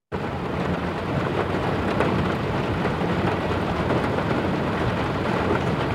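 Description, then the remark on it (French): Heavy rain pours steadily over a city in Africa, a dense, constant hiss and patter with a low rumbling undertone, loud, with no voices. “C'est la pluie qui tombe sur la ville en Afrique et ce son me rappellera toujours, même aujourd'hui, parce que la plupart dans les villes africaines, les toits sont en tôle ondulée.”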